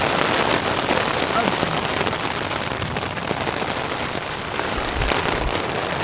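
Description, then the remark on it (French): Steady, dense rain patters onto a hard surface, a continuous hiss of countless drops with no break for the whole stretch, a couple of low thuds near the end. “Tu vas être trempé après, mon chéri. C'est là que ça va pleuvoir.”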